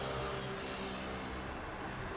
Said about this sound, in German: Jetzt stehe ich auf einer Verkehrsinsel, unweit vom Hermannplatz. Das ist ein Motorrad.